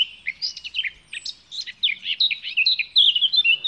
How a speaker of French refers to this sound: Et là, plus bas dans les grandes herbes, ce chant flûté. C'est la fauvette à tête noire.